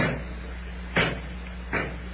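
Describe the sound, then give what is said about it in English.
Two heavy thuds of someone pounding on a stuck door that will not budge, in a hot, shut-in place, spaced under a second apart, over a steady low hum, with no one talking. “this place here sounds kind of hotter when you pound on it, but oh, don't move none at all.”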